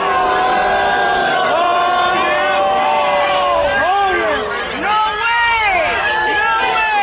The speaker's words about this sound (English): The heckling started almost as soon as he waded into the crowd of about 200 students gathered on the Capitol steps.